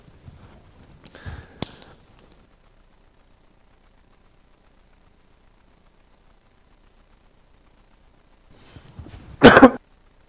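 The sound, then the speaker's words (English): A person with allergies coughs and clears their throat in a couple of sharp bursts, the first near the start and a louder, harsher cough near the end, with quiet silence between. “Can you silence it when you see me start to cough?”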